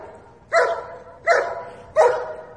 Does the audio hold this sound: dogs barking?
yes